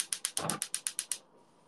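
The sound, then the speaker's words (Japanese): A gas stove igniter clicks rapidly about ten times in a steady rhythm, crisp, with a brief soft whoosh of the burner catching partway through under a frying pan of water for Sapporo Ichiban salt ramen, then quiet. “火をつけます。”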